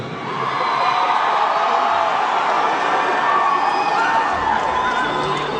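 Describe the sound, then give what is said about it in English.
A large concert crowd in San Antonio roars and cheers wildly, a dense, sustained wall of shouting and whooping that holds steady at full volume for several seconds. “Everybody says that the San Antonio crowd is always so wild.”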